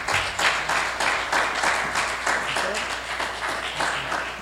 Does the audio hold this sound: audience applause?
yes